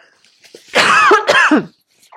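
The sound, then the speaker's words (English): A pair of loud coughs from a throat tickle in quick succession, harsh and raspy, the second ending in a short wheezy rasp, with silence around them and no talking. “This is a different cough than the usual one.”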